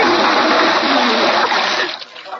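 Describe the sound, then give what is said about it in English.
A bucket of water set up high splashes down on a man all at once, a loud, dense sloshing gush lasting about two seconds before quickly dying away into a few last drips and trickles. “who put that water bucket up there?”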